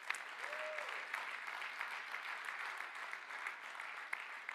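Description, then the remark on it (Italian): A church audience claps steadily for the Lord, a dense and sustained wash of many hands with a few sharper claps standing out, and no talking over it. “Fai un applauso forte per il Signore.”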